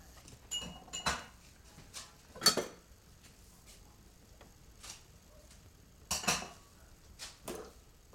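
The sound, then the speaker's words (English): Dishes and cutlery clink and knock together in bubbly washing-up water with a sponge, a scattering of short, bright clatters at irregular intervals, some louder, with quiet sloshing between them and no talking. “Okay, you need to push it over so the water doesn't go down the side.”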